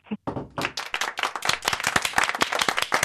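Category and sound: crowd, small group applauding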